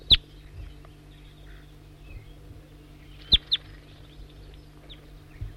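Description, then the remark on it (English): A wild bird gives a few sharp, high chirps: one at the start, a quick pair later, then a fainter call, all over a low, steady background hum. “Start recording the wild bird again.”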